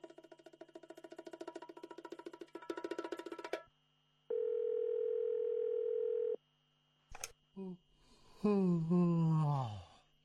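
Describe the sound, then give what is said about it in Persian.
A phone call to a radio station rings out with no one picking up: a buzzy, harmonic ringing, then a single long steady tone, followed by a brief pause and a weary, falling vocal sigh. “نه وقتی تلفن میکنی کسی جواب نمیده”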